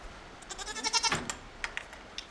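A pygmy goat, one of a pair housed in a vacant aviary on a farm, bleats once, a wavering, nasal cry with quivering harmonics lasting about a second, followed by a few faint rustles and clicks.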